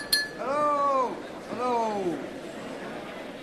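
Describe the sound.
A single sharp clink as Rooney taps a drinking glass with a spoon downstairs while a crowd gathers, ringing briefly, followed by two drawn-out voiced sounds from someone before it quiets.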